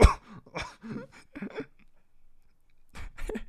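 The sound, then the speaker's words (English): A voice imitates coughing in a series of short, exaggerated hacking bursts, fairly loud, followed by a brief pause and one more burst near the end. “Bro, what if he's like, ho, ho, breaks in the house and coughs on some cookies and stuff.”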